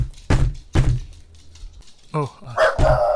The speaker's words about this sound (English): What the hell's going on out here? Who's Russell barking at?